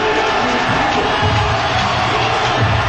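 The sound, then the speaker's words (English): A large outdoor crowd at the AT&T Plaza roars and cheers continuously during a Mavericks parade as Dirk's float with Jason Kidd passes, a dense wall of voices with scattered whoops rising out of it, loud and sustained throughout. “Dirk is with Jason Kidd on a big float that says Mavericks, and the AT&T Plaza has erupted in cheer.”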